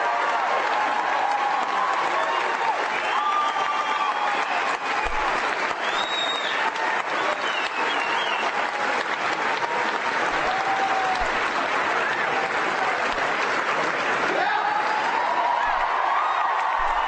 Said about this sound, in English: Now they're all standing up and applauding, but they don't understand.